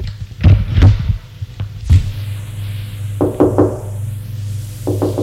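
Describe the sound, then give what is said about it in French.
Someone knocks on a door: a few heavy, spaced thuds, then quicker bursts of three sharper raps, all over a steady low hum with no talking. “On a frappé à la porte.”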